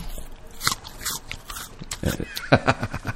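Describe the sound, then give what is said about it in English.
Someone bites into a crisp apple and chews, making a series of sharp, wet crunches in irregular bursts, louder toward the end, with no talking. “While you do that, I'm just going to eat an apple. That's going to be really noisy.”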